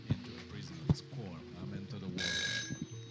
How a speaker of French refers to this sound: Qu'est-ce qui s'est passé ? Le réveil a sonné.